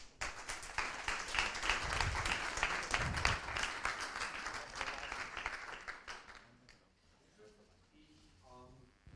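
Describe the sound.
An audience applauds with dense, steady clapping for about six seconds, then the applause fades out and a man's voice begins speaking over the tail end.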